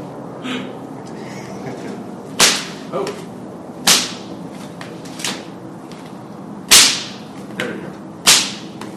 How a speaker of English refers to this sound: It might be this extra knot. I had difficulty with that. But I wasn't going for sound. This whip has never been loud.